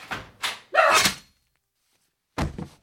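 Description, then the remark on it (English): Two quick thuds, a heavier rattling bang, then after a short silence two more knocks on a door, fairly loud, with no one talking. “Is that you knocking at the door?”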